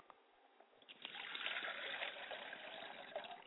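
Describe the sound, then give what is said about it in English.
Water is poured into a glass as a libation in a steady trickle that starts after about a second and runs continuously to the end, with a quiet lead-in and no talking. “I pour a glass of water for my father and for my mother's side of the family, and I say Ashe.”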